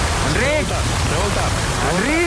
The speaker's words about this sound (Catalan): Doncs mira, ha començat plovent de tot el país. Dic una xifra, el Vendrell 85 litres i l'altre punt de contacte... Cal que posem la pluja aquesta tan forta. No, és que plou molt a Catalunya.